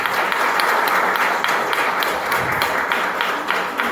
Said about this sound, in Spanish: tengo que destacar la función, el trabajo invalorable de un señor que es autor, artista, creativo, productor de espectáculos, que es Jonathan Esconamiglio, para quien pido un fuerte aplauso por su trabajo.